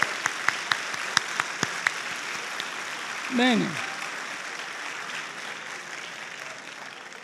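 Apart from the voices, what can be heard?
audience applause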